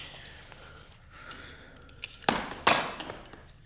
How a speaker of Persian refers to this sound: چیکار میکنی؟ این چاقو مال منه. برای بریدن کاغذ ازش استفاده میکنی؟ بله. ولی چاقوی باغبونیه. نمیشه با چاقوی باغبونی کاغذ برید؟